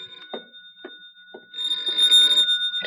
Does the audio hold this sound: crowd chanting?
no